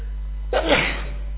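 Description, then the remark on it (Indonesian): A single sharp sneeze bursts out, a quick intake followed by a forceful explosive burst, then fading into a low steady hum. “Alhamdulillah.”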